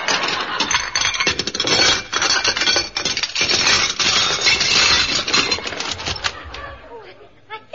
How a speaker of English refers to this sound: I'll just push some of the dirty dishes aside so you can get in the door.